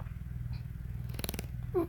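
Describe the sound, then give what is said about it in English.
A suction toy on a nipple gives a low, buzzing rumble throughout, broken by a short burst of wet, sputtering pops near the middle and a brief squeaky, fart-like blurt at the end as suction breaks. “It makes little farting noises when the suction breaks.”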